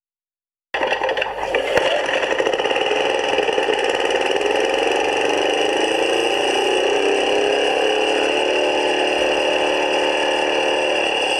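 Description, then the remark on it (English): A car engine starts abruptly after being given a tickle to get it going, then runs steadily at a fairly high idle, its pitch sliding slightly as the revs shift, loud with no voices over it. “Knock the revs off.”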